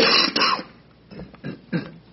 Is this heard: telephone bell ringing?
no